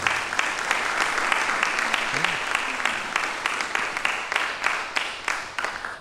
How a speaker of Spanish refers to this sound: por favor, aplaudan